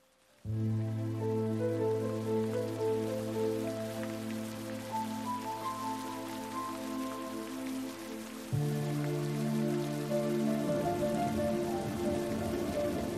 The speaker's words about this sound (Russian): Наступила в Африке грустная пора. Ливень так и хлещет, льет, как из ведра. Льет без остановки, льет без передышки.